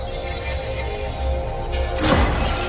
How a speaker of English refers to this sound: won't just hear glass break. You'll hear slightly battered and bruised baseball fly past your right ear as a cloud of debris blooms and shards of glass trail overhead.